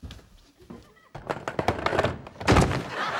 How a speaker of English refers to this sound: Alan and Berta flinch as Charlie crashes over backwards.